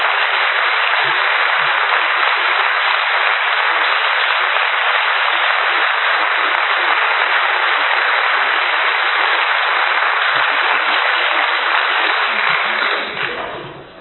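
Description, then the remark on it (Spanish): A crowd applauds members of the board of the association that set up the music school, a dense, even wash of many hands clapping that holds strong for about thirteen seconds before quickly dying away. “Que eran componentes de la directiva de la asociación que llevamos a cabo para hacer la escuela de música, y entonces los quiero también un aplauso para ellos.”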